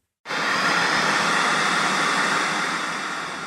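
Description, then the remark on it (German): Steady, loud hiss of white noise from an art installation called White Noise Absolution, built from an old confessional, starting abruptly after a brief silence, spread evenly across a broad range and holding constant with only a slight fade toward the end. “Gott hat Sendepause. Kein Empfang. Weißes Rauschen.”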